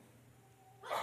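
A single sneeze bursts out suddenly at the very end, a short breathy, hissing blast that follows a stretch of quiet, steady background hum.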